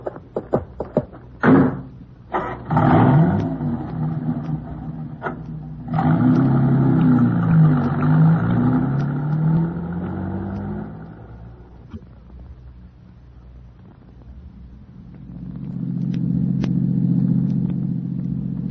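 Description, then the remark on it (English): A few sharp thuds like car doors closing, then a car engine turns over and revs up loudly before fading as the vehicle drives away, leaving a low rumble. “Well, what about this guy's car? I'll be in it.”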